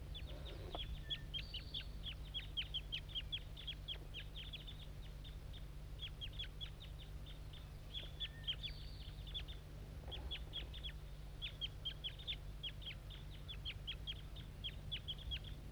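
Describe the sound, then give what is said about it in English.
Rapid, high-pitched chirping calls from a young bird repeat in dense bursts throughout, over a steady low hum, with occasional short pauses between runs of peeping. “Start recording the juvenile again. I think it's bird 2-7.”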